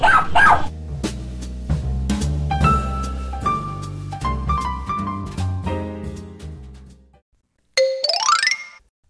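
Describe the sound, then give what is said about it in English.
A single high-pitched puppy bark, a short rising yip, rings out clearly right after a bright plucked musical jingle fades to silence. “I want a puppy.”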